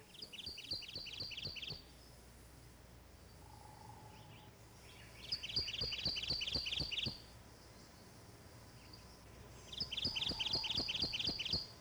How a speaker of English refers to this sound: In the northwestern part of the state only, and of local summer occurrence in rich woods, is the undergrowth-dwelling Kentucky warbler.